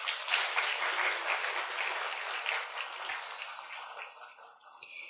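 A crowd claps steadily for several seconds to welcome and honour Bhai Ji, a dense wash of many hands applauding together that tapers slightly toward the end, with no voices heard.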